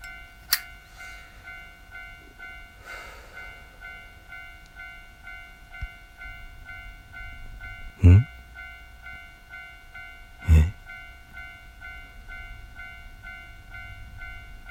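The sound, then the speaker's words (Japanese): A train stands stopped in the middle of a railway crossing while the crossing barrier stays down, a steady electric whine hanging in the air, broken by two heavy metallic clunks a few seconds apart. “と踏切の方に目をやると、踏切の真ん中に電車が止まっていた。”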